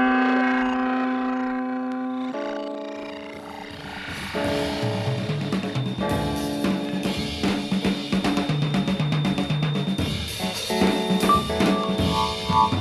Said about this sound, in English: Then there's the electric clavinet. It's really like an electric clavichord, and it has strings, and it has little rubber hammers that hit the string when you press the key down, like this.